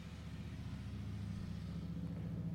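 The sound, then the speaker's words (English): A motorcycle engine rumbles by with a low, throbbing drone of steady harmonics that holds loud throughout, with no voices over it. “A motorcycle literally went by as I'm recording that.”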